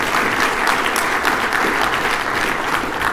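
An audience claps steadily for a few seconds for someone who helped get a license, a dense, even wash of many hands with no talking over it.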